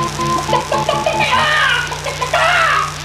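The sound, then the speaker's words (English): A chicken clucks and squawks in a few agitated bursts, loud, over a steady low hum with some brief tonal notes at the start. “And there's chicken doo-doo all over my Bunsen burner.”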